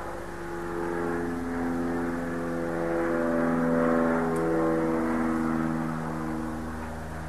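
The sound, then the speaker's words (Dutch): A propeller airplane drones overhead, its engine hum swelling gradually and then easing off slightly as it passes, a steady low rumble with no one speaking. “Van een vliegtuig. Het is even een verschijnsel dat opkomt en weer verdwijnt.”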